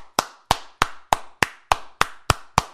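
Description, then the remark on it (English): Nine sharp, full-palm hand claps at a steady, fairly quick pace, each a bright crack with a quick decay, made by striking with the whole palm, lower finger segments, fleshy base of the thumb and side of the hand. They are loud and crisp, with no talking. “Now that's a clap.”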